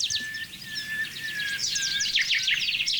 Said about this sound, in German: Bis auf den Buchfink, der immer wieder den gleichen Satz sagt. Hinter mir klingt er.